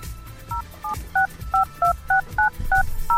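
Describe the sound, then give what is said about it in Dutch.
A quick run of about ten touch-tone telephone keypad beeps, each a short dual-pitched tone, dialed at a steady brisk pace over a low background hum. “ik stel voor dat jij de telefoon weer gaat hanteren.”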